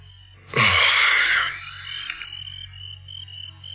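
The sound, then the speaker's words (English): A sudden loud rustling burst gives way to a steady, high-pitched cricket trill at night at a cottage, carrying on thinly to the end over a low background hum; no one speaks. “He had read everything of interest of the cottage and was considering bed when the cricket stopped singing.”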